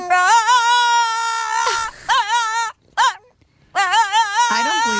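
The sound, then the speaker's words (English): A dog howls and yowls in long, wavering, tuneful notes, rising and falling in pitch with brief breaks between bursts, loud and alone, like it's singing along. “I'm having, like, he's singing to us.”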